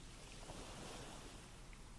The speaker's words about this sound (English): you're on a beautiful beach. Can you hear the waves? Yes. Okay, good. Everything's good. The waves sound so nice. Your toes are in the sand.